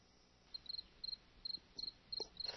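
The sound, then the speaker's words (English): Crickets chirping in steady, evenly spaced bursts of rapid pulses, high-pitched and fairly faint, over a quiet background hiss with no voices. “Crickets. How about that?”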